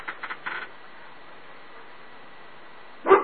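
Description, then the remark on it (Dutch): A dog gives a single short, sharp bark at the very end, following a few faint clicks and a stretch of steady background hiss. “Ja, de hond gaat af.”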